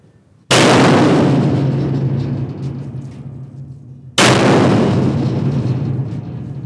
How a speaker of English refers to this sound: wielding a 4-foot hammer with a massive tree trunk mallet